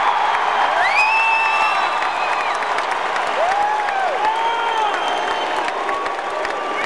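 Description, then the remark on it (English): A large crowd of Republican delegates at the RNC booing in a loud, steady roar that fills the whole clip, with rising whistles and whoops cutting through the din; the boos follow McCain's speech and are directed at filmmaker Michael Moore. “McCain's verbal attack whipped the Republican delegates into a frenzy of boos directed at the filmmaker who was present for the speech.”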